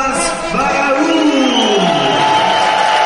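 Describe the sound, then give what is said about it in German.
A large crowd applauds and cheers in a dense, steady roar that stays loud for about three seconds, with a voice-like whoop rising and falling through the noise, as 22-year-old fighter Abbas Barrau, this year's European champion, is introduced. “Ja, viel Beifall für ihn.”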